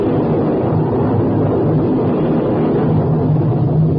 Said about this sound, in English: Professor, that is thunder.